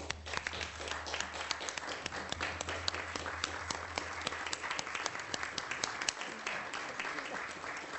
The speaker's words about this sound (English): Yeah, I think we really need to recognize her today, and I would join you in welcoming, joining me in a round of applause.